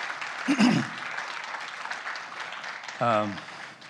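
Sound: audience applauding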